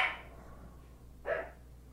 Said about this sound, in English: You said, why the dog's barking?